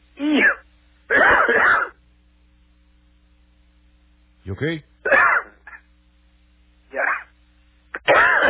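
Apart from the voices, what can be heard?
coughing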